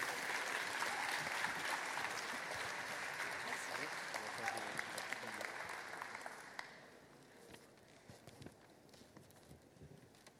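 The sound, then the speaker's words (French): An audience at a festival prize-giving claps steadily as two presenters are called on stage, a dense wash of many hands that holds loud for several seconds, then thins and fades to scattered claps toward the end. “Vous pouvez les applaudir pour les motiver.”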